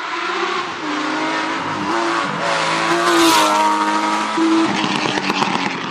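A rear-engined Porsche 911 sports car engine revs loudly, its pitch climbing and falling through several sweeps over a steady mechanical roar, with no one speaking.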